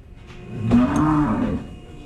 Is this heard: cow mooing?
yes